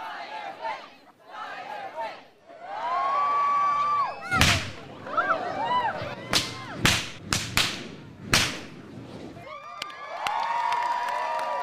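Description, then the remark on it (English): About six sharp, loud bullwhip cracks from a whip-cracking show at the Bristol Renaissance Fair ring out in an irregular burst over a lively audience that chatters and cheers throughout. “reaches into an old trunk and pulls out a long black whip, heavy and dripping with gas”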